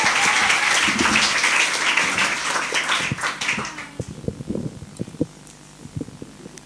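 A crowd claps in a dense, steady burst for about four seconds, then the applause thins out into a few scattered, sharp claps before fading.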